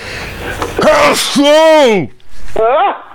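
A loud, theatrical sneeze from a single voice: a short voiced gasp, a long drawn-out wavering cry, then a shorter final burst, with no other talk around it.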